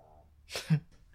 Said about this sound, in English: Sorry as I talk over Ninja. With his longest snore ever.